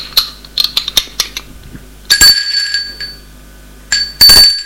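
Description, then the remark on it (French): In an apartment, a few light clinks, like cutlery or dishes, as a man finishes his breakfast, then the doorbell at the apartment door rings twice, each a bright metallic ding with a high, sustained tone that hangs briefly before fading. No one speaks. “On sonne à la porte.”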